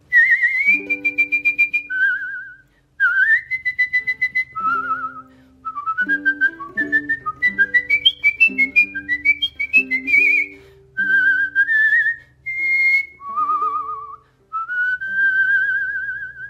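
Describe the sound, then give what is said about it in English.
A person whistles a lively melody, the clear tones gliding and hopping between notes in quick phrases with brief pauses, steady and fairly loud throughout, with no talking. “It's hard to feel sad or mad when you're whistling, isn't it?”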